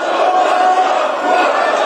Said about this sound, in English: Members of South Korea's parliament just screaming at the podium during a session that ended by impeaching acting President Han Duck-soo on Friday